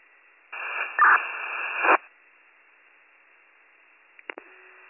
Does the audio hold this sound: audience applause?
no